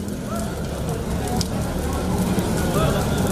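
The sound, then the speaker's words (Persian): Tires set on fire by protesters in Lebanon crackle and roar steadily, a dense continuous hiss with scattered pops, while indistinct voices murmur faintly in the background. “در این منطقه معترضان اقدام به آتش زدن لاستیک کرده و با نیروهای امنیتی و ارتش درگیر شدند.”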